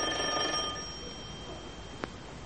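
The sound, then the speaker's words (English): A doorbell rings once with a bright, metallic chime that lingers and fades within about a second, followed by a single sharp click a moment later. There is no talking. “Go on, ring the bell.”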